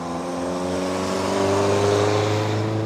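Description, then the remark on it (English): A heavy truck carrying coal drives along a winding two-lane road near the Kanawha Eagle Mining Complex, its deep engine drone steady and loud, the pitch rising slightly as it draws close. No one speaks. “All three sit along a winding two-lane road that on any given day is peppered with trucks carrying loads of coal.”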